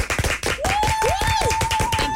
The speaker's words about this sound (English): I feel like we need to do a slow clap for her, for what she did for me while I was leaving for London.